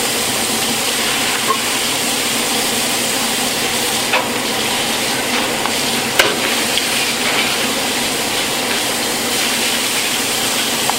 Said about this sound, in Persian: موقعه گوجه هم همینه، یعنی رو گوجه رو باید هم بزنید تا باز بشه. تقریباً سی الی چهل ثانیه که همش بزنید. بعد همه جای قابلمه‌تون رو هم بزنید که این با پیازتون کاملا مخلوط بشه.